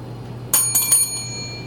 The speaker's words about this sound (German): Hallo? Hier ist eine Glocke.